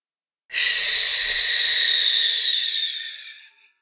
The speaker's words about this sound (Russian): Послушай, как разговаривают волны, набегая на песок. «Ш-ш-ш-ш», говорит волна. Потом тихо откатывается и снова набегает.